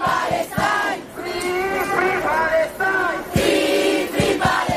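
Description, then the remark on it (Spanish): A large protest crowd chants in unison in a street in Rome, Italy, on a general strike day, people demonstrating in defence of the flotilla; loud rhythmic phrases of many voices rising and falling with brief pauses between repetitions. “Sí, una marea de italianos e italianas en muchas ciudades que hoy a lo largo y ancho del país han salido a la calle para defender a la flotilla y para gritar alto y claro.”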